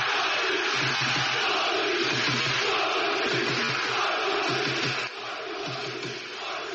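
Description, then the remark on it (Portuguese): A large crowd of Sporting football fans in Lisbon, Portugal, celebrating the league title after a 1-0 win over Boavista, roars and shouts continuously: a dense, loud wash of cheering voices with rhythmic chant-like pulses, easing slightly in volume near the end. “Em Portugal, após 19 anos de jejum, a duas jornadas do fim do campeonato, os adeptos do Sporting puderam começar a gritar.”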